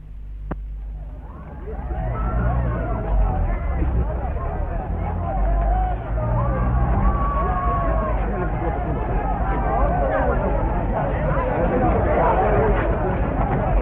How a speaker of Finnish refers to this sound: Työläisten taholta käytettiin kiviä ja muuta kättä pitempää. Tällaiselta kuulosti Arabian tehtaan portilla tänä aamuna kahinan ollessa kovimmillaan.